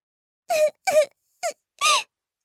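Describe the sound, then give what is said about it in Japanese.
A voice imitates a white kitten sitting under a tree and crying: four short, high, whiny mewling sobs in an uneven rhythm, fairly loud, with brief silences between them and no other sound. “ブチが声の方に目を向けると、なんと白い子猫ちゃんが木の下に座って泣いていました。”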